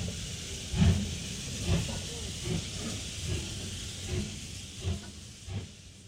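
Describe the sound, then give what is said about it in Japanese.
A steam train pulls away, leaving a passenger behind, its hissing steam steady under a series of regular, deep chuffs at a moderate, even pace, with no one talking. “乗ろうか乗るまいかと考えているうちに、汽車は私を置き去りにして出て行ってしまいました。”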